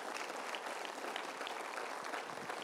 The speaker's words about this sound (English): Come on, if you're thankful for God and His love for your life, give Him a round of applause right now. Come on.